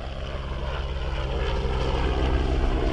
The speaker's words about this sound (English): From the helicopters taking off from here to serve the offshore oil rigs to these great tankers lying here on the Mississippi River